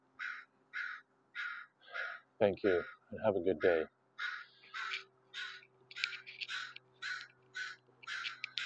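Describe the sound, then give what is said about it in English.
Crows caw repeatedly in a steady run of harsh, rhythmic calls, loud, continuing throughout while a man speaks briefly near the start, along a walking path on the west coast at the border between Canada and the United States. “The crows are singing agreement today with me as we walk along my path.”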